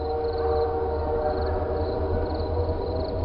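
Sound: passing train with whistle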